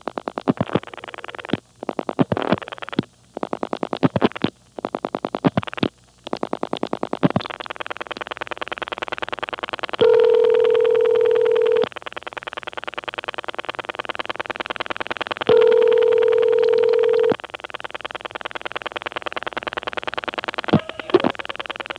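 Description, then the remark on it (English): Bursts of sharp clicking on a telephone callback circuit in the Carolina telephone area, like a number being pulse-dialed, then two steady two-second tone signals over constant line hiss. Nobody speaks. “Okay, we're on the callback circuit that likes to click, and I'll call the number.”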